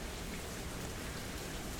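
nature, rain falling outside

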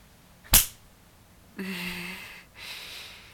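impact, hard slap

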